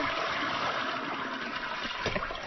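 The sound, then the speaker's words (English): A toilet flushes with a steady rushing, gurgling wash of water that holds at an even level throughout, with no voices. “Just wait a second while I flush the crapper. Archie Bunker flush.”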